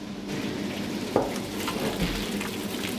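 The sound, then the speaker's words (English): Milled grain being mixed by hand with a long pole into hot water at a set temperature while mashing in for brewing, a steady wet, crackling churn like sizzling or rain, with one brief louder knock partway through and no voices. “So we're basically mixing the water and grain together, getting it soaking.”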